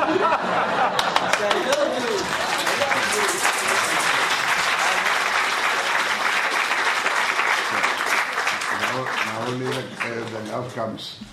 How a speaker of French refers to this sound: pourquoi est-ce que cela vous applaudissait?